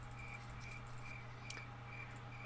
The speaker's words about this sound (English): Every time. Every time. The crickets. Gotta love the crickets.